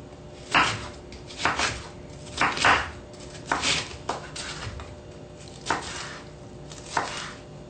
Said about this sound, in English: I like to remove the seeds from the bell peppers as I'm chopping them because they're a little bit hard and crunchy. They also have a bit of a bitter flavor.